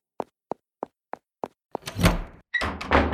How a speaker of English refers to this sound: Door moving on its own.